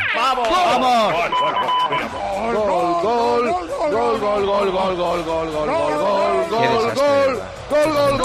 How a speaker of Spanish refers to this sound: se vienen arriba y destrozaron el himno nacional.